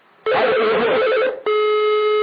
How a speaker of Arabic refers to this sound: كيف ان يدق على التليفون؟ هو الان يتصل بالشيخ خالد الوصابي وهذا تليفون الشيخ خالد الوصابي.